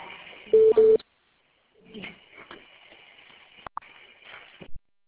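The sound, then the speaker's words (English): Two quick electronic keypad beeps sound close together over a phone line as the phone is taken off conference mode to open for questions, followed by muffled, faint telephone-line chatter and noise. “We're going to get some assistance here to take the phone off for conference mode and allow you to ask questions.”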